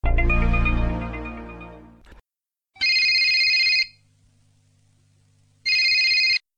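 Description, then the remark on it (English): A phone rings twice as a travel agency worker calls a colleague about a summer publicity campaign, in bright, buzzy bursts about a second long, separated by a low hum, following a fading resonant chime at the start. No one speaks. “phones her to tell what was decided and to explain her part in the preparation of the summer publicity campaign.”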